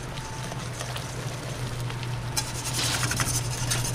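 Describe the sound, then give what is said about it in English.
Quick-cooking cornmeal and hot water being whisked in a hot pan to break up clumps: a continuous wet scraping and bubbling over a low steady hum, turning brighter and more rasping about halfway through. No one speaks. “So I'm just going to take a whisk, really make sure that all those clumps are out of there.”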